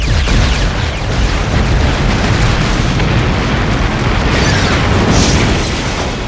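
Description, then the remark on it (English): Continuous roaring explosions as disruptor fire hits the exposed rear engine vents of a gravity barge, heavy booming blasts layered over a deep, rumbling low end, loud throughout, with crackling bursts flaring near the end and no voices. “The barge tilted slowly over onto one side as fuel cell after fuel cell shut down rather than add to the explosions, and the gravity barge began its slow, implacable descent towards the ground below.”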